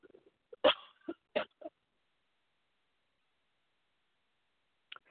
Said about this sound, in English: Excuse me, I got the cough.